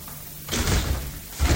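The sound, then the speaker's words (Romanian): A door is opened to let a visitor in, with a broad thud and rattle, followed by a second heavier bang as it swings or settles; no voices, just the two bursts of wooden impact over a quiet background. “Mă duc să-i deschid.”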